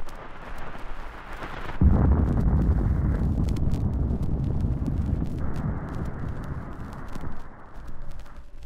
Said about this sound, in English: And then the morning air was rent with the sound of police and fire sirens, an explosion at a cold storage warehouse.